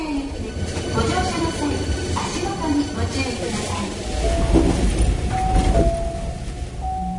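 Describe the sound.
Steady rumble of a train running on rails, heard from inside a carriage, swelling slightly midway, with a brief rising tonal whine near the end and indistinct voices in the background.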